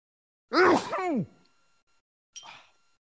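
One loud sneeze: a sharp voiced burst with a rising and falling pitch, then a brief breathy hiss about a second later. No one speaks.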